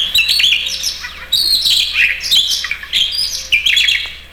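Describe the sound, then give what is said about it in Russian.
A Siberian rubythroat, also called the rubythroat nightingale, sings a rich, varied warbling song of rapid whistles, trills and chirps, delivered in bursts with a faint low hum underneath. “Вы слышите сейчас соловья-красношейку. Сибирская красношейка, эту птичку называют еще и так.”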